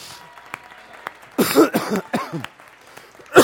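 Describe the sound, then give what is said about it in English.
A few scattered claps build into a short burst of audience applause mixed with whoops and voices, fading after about a second, then one last loud clap-like burst. “Give him a clap. Give him a hand.”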